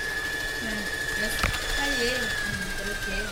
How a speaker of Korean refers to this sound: 재봉틀이 바쁘게 돌아가고 집안을 꾸미는 다양한 생활용품 만드는 것을 가르치는 홈패션 학원입니다.